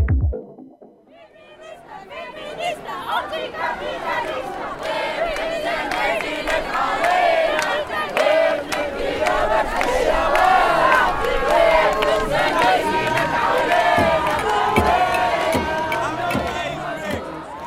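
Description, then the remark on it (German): A large protest crowd of 20,000 to 30,000 people chants and shouts together at the large demonstration of the 11th World Social Forum in Tunis, Tunisia, many voices blending into a dense, steady roar that swells slightly after a quiet start and stays loud throughout. “In der tunesischen Hauptstadt fand die Großdemonstration vom 11. Weltsozialforum statt.”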